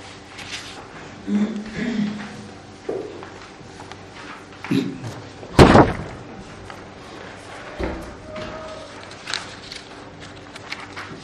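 A single heavy door slam rings out mid-clip, a sharp loud bang, with a few softer thumps and shuffling knocks around it.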